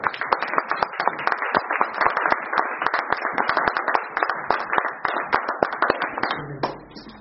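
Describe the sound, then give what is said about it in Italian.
A crowd applauds steadily for about seven seconds, dense overlapping claps with sharp individual hits standing out, loud, easing off right at the end. “Va bene, adesso un applauso grosso.”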